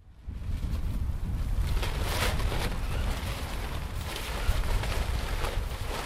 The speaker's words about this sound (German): Ein Feld inmitten einer Industriebrache. Bunte Spruchbänder flattern im Wind. Ihre spanischsprachigen Aufschriften sind kaum zu lesen.